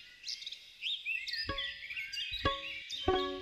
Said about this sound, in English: mic up a bunch of trees and bushes where he knew songbirds liked to sing at dawn